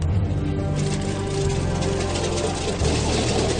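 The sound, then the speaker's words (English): The right engine of a water bomber aircraft turning over and running up at Ulsan Airport in Korea, a loud, steady low rumble with a droning hum and a slight shift in pitch partway through, no voices. “Okay, start right engine clear.”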